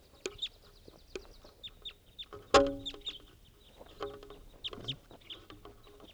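A female bird calls in a series of short, clucking and chirping notes, with one louder, harsher call partway through and softer high squeaks scattered between.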